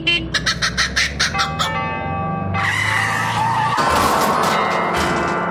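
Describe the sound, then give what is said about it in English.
Rapid, rhythmic kookaburra cackles ring out over sustained bell tones, then a loud car skid and crash surges in as a Hillman Minx collides with a set of tubular bells, the bells clanging and shimmering through the noise until the end. “That's a kookaburra in a Hillman Minx colliding with a set of tubular bells.”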